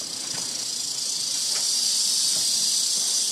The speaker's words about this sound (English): So I finish up my open house, go to step out the door, and there's this little rattlesnake outside. He's pretty little. He don't look too dangerous to me.